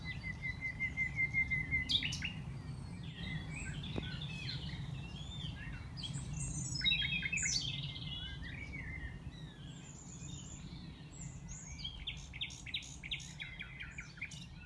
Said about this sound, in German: Ich persönlich würde allerdings am liebsten in der Bossee übernachten, einer abgelegenen Hütte aus Zedernholz, und dort im Vorposterbett unter der dicken Daunendecke dem Gesang der Nachtigallen lauschen.